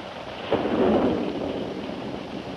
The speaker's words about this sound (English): A short time later, the storm stopped.